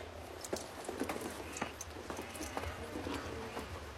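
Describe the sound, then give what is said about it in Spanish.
Hooves of a horse and two loaded mules clip-clop at a steady walk as a rider on the horse leads the mules up into the mountains, with irregular overlapping knocks on hard ground over a low, continuous outdoor rumble. No one speaks. “Sube las montañas a lomos de su caballo y tirando de dos mulas cargadas.”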